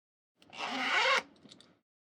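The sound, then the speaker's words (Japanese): A zipper is pulled open in one smooth, steady rasp lasting under a second, fairly quiet, followed by a few soft fabric rustles before silence. “チャック開けて。”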